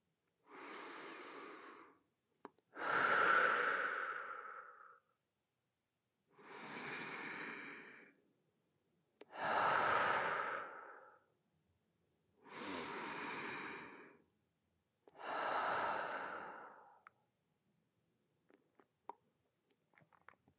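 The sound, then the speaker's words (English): Three slow, deep breaths, each a long airy inhale followed by a fuller exhale, evenly paced with short quiet gaps and no talking. “And now, take three deep breaths to let out any tension from the day.”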